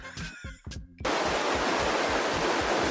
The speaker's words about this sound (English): just suddenly cuts to a river somewhere.